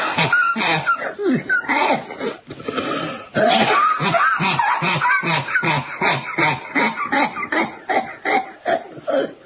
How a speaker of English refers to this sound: Nice cough. Because that is the corona cough.